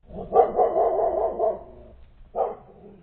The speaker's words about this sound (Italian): Un lontano latrato rispose alla disperata chiamata.